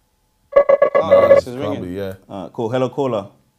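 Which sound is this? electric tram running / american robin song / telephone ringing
telephone ringing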